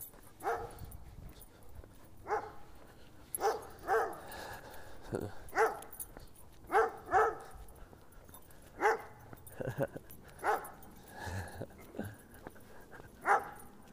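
A dog named Jackson barks in short, sharp bursts, about a dozen over the span at an uneven pace, with softer whimpering and whining between the barks.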